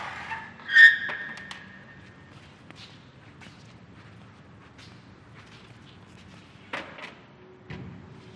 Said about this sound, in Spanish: Toma su silla plegable, la dobla y la recarga en la pared.